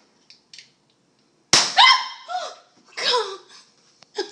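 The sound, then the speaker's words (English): A couple of faint clicks, then a single sharp, loud crack as a woman fires a freshly loaded .43 caliber air gun at a shower curtain, quickly followed by high, excited yelps and short vocal outbursts that trail off in bursts. “And now, my lady shoots a freshly loaded .43 caliber air gun at a shower curtain.”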